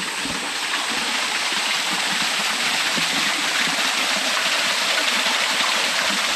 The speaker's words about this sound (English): Now, if you've gone through that tunnel of love, you come out to this little pretty area here with a little waterfall.